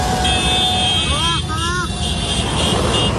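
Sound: helicopter flying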